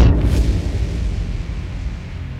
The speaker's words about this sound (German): Wie ein Schnappmesser kippt die kleine Maschine über den rechten Flügel. Ist der verrückt, der knallt ja in den Schornstein.